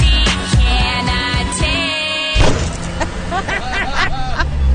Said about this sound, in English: during the video, and a bus just mows her down.